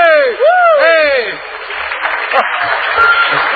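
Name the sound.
applause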